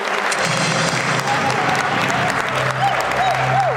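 Steady, sustained applause from an audience as a contestant is called up on stage to play Who Wants to Be a Millionaire, a dense wash of clapping hands at even loudness throughout, with faint cheers and whoops rising briefly near the end.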